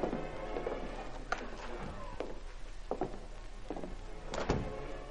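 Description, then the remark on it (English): An unlocked door at the top of a stairway leading up from a boat mooring is opened, with a series of sharp clicks and knocks from the latch and frame over a low background hum, and no one speaking. “Scrambling from the boat to the stairway, Reed and Cato ascended stealthily and opened the unlocked door.”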